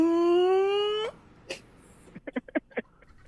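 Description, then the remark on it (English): A man's voice imitates a unicorn with a loud, sustained wail that slowly rises in pitch for about a second, followed by a breathy puff and a quick run of short, snorting pulses. “I think that's a human being pretending to be a unicorn.”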